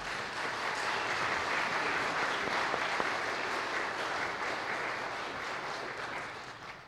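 An audience breaks into steady applause, a dense wash of many hands clapping at an even loudness for several seconds before easing slightly toward the end.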